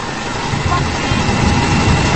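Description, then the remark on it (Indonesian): Sewing machines run steadily in a sewing workshop of about 50 machines during a late-night shift, a continuous loud mechanical whir with a low, rumbling drone that holds throughout and swells slightly toward the end. “Musik berirama Sunda terpasang hampir seirama dengan suara mesin jahit yang bersahutan.”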